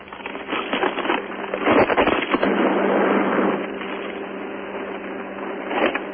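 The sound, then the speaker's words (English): Someone rummaging around in a freezer: a steady run of clattering, rustling and knocking, busiest near the middle, with a few sharper thumps and a brief burst near the end. No voices. “I still hear him rummaging around in there.”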